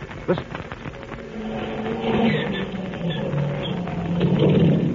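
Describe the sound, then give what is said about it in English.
The two engines of an amphibian aircraft on a riverbank sputter and pop as they start, then settle into a rough, steady drone whose low hum grows gradually louder over several seconds. “There we are, both engines started.”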